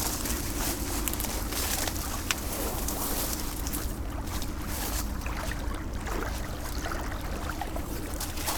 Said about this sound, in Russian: Аккомпанемент волн.